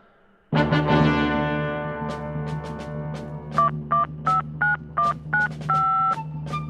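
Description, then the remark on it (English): A steady, loud droning tone gives way to a quick series of about seven touch-tone telephone beeps, evenly spaced, the last one held a little longer, with no voices. “A phone call to Americans.”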